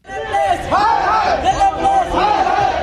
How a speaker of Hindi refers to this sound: Delhi police के खिलाफ नारे लगाती ये आवाजें वकीलों की हैं, जो दिल्ली की 30,000 कोर्ट के बाहर मौजूद थे।